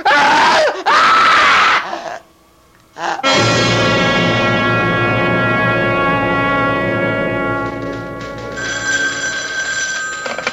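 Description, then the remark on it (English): A woman lets out a piercing, terrified scream in two loud bursts, then a brief silence gives way to a sustained, blaring dramatic chord that holds to the end. “Stay away from me, or I'll scream.”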